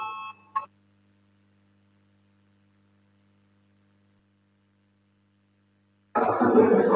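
A brief electronic tone sounds, then a long stretch of near silence with a low hum. Finally a loud, harsh parliament voting bell begins ringing continuously at the end, called before the vote on Transport Minister Linkaits's proposal number 11.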